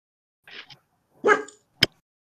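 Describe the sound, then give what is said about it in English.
A person mimics a dog with three short woof-like barks, the first two soft and close together, then a louder, more prominent one, and finally a sharp, abrupt click. “Woof, woof. Woof.”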